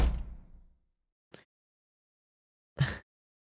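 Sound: door being shut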